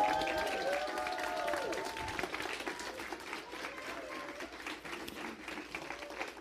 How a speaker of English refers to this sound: So we can give you a hand clap.